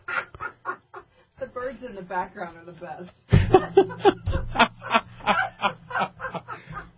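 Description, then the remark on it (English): Birds call in the background, with short clucking, chirpy bursts repeating through the second half, mixed in with people talking and laughing. “The birds in the background are the best.”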